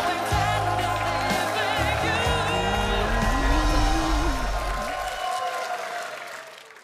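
A crowd applauds and cheers loudly, with one voice shouting out above the clapping partway through before the noise fades away toward the end.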